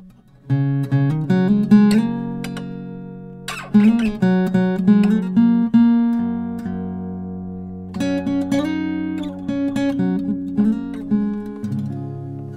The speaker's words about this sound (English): And I need to tune the guitar.